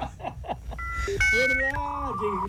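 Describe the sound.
A voice imitates a dial-up modem connecting to the internet: a few quick choppy syllables, then sustained beeping tones and warbling, shifting pitches that slide and hold for about two seconds, fairly loud.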